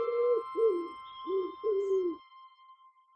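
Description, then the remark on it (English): A pigeon coos in four soft, throaty bursts, the first pair and second pair each separated by a short pause, over a faint steady background hum. “Jess, that's not an owl, that's a pigeon.”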